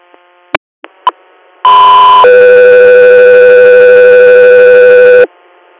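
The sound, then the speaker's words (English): A few sharp clicks, then a loud, steady two-tone radio page for unit Echo 3: a higher sustained tone steps down to a lower one held for about three seconds before cutting off, with no talking. “Echo 3, stand by for tones.”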